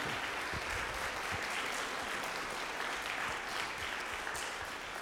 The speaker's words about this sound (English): and I think we owe him a big round of applause.